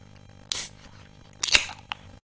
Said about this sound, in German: Ich setze jetzt noch ein paar weitere Dinge um. Ich öffne mein Getränk.